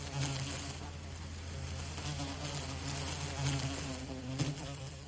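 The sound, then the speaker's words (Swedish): A steady, droning insect buzz fills the whole clip, horseflies at a bay by the water humming continuously with slight rises and dips in pitch and a few louder swells, with no voices. “Usch, det var för mycket otäcka bromsar i mormor och morfars vik.”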